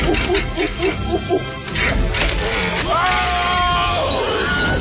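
A Wilhelm scream: a short, piercing cry with a bent, falling pitch, cutting through loud crashing and clattering movie action noise after a run of rhythmic thumps.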